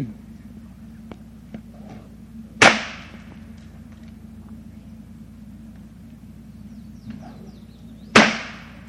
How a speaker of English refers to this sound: So, Tommy's going to give you a little fancy whip popping over here now. Okay, Tommy. This whip Tommy's using is about 14 feet long.